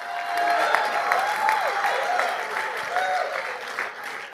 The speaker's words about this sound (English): If you believe it, go ahead and clap your hands in anticipation.